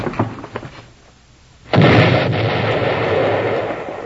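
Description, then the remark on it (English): A few faint pops and thuds, a brief lull, then sticks of dynamite with a short fuse go off in a sudden loud blast with a deep booming roar that rumbles on for a couple of seconds without fading much. “Dynamite sticks with a short fuse.”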